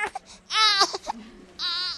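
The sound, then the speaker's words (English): A hungry four-week-old newborn baby cries in Mark Warner's office: two long, high-pitched wails with short gasping whimpers between them, loud and strained. “four-week-old newborn is hungry, so she plops right down on the front couch and starts breastfeeding.”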